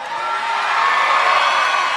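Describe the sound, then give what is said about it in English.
A live audience cheers and whoops loudly, a dense burst of crowd noise with high shouts that holds steady for about two seconds, cheering a roll of 20 on a die during a perception check. “That means, hey, folks, if you cheer for every 20 I roll tonight, that will probably be the last one.”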